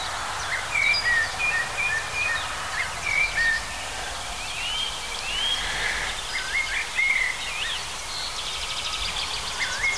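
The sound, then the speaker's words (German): A European robin sings thin, high, warbling phrases in short bursts throughout, over a steady wash of street traffic noise on a damp autumn day. “Allerdings, wenn wir mal vor eins im Rotkehlchen genau stehen, dann wird es ziemlich schnell klar.”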